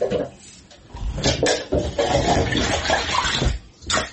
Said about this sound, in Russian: Также действуют жители Якутска, где в микрорайоне Кирзавод из кранов течет коричневая вода.